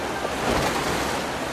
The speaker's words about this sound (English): Now, Miller paddles a new raft downstream. He navigates the rough water.